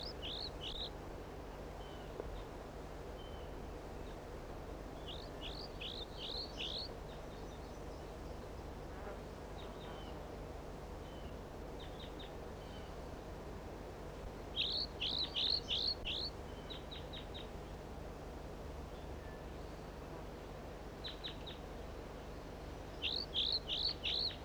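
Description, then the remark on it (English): A juvenile bird sings and calls in short bursts of high, quick chirping notes, clustered in groups of three to five and repeating intermittently over a steady insect-like buzz and low hum. “The juvenile is singing like this, and one of the birds is perhaps down, and 4-3 calls intermittently.”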